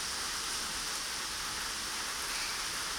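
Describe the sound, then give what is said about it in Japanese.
Steady, dense rain pours down in a continuous hiss, a sudden evening shower drumming evenly on surfaces with no voices or pauses. “嫌になっちゃうよね、この夕立。”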